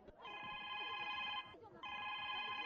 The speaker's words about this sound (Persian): مادر جان زنگ تلفن دوکان است، شاید یک مشتری باشه.